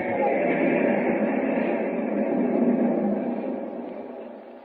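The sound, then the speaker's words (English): A moving passenger train, whose next stop is Carson City, rumbles steadily with a dense, continuous roar of wheels and carriage noise, holding loud before easing slightly toward the end. No voices are heard. “Will Superman arrive before Lois is taken off the train at Carson City?”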